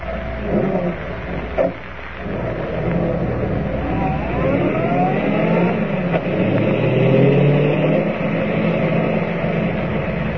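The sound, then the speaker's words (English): A car engine runs steadily, its pitch rising and falling as it accelerates and shifts, with a brief thump near the start and no voices, as the car drives to an abandoned gold mine. “Driving to the abandoned gold mine, Clark Kent and Ed Jenks enter the shaft through a creaking door which hangs from one rusted hinge.”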